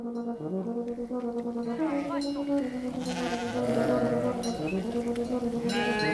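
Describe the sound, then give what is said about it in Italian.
A flock of sheep bleats continuously, many overlapping wavering calls, fairly loud, with a man's voice speaking and calling out over them. “E quindi adesso noi andremo avanti, le pecore verranno piano piano e ci raggiungeranno a Frattura Vecchia, perché le pecore sanno il percorso che devono fare.”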